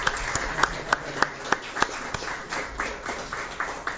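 Applause from a small group: sharp, evenly spaced claps at first, then a denser and softer patter of many hands clapping together, with no talking over it.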